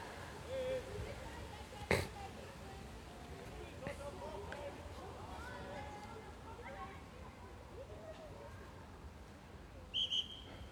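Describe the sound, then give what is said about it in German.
A referee's whistle gives two short, sharp blasts near the end during a children's football match, cutting through a steady murmur of voices and outdoor crowd noise. “So, jetzt gab es ein bisschen Konfusion, weil die Kinder nicht gehört haben, dass der Schiedsrichter da gepfiffen hat.”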